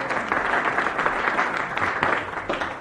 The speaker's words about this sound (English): Let's give her a big hand. Play golf clap.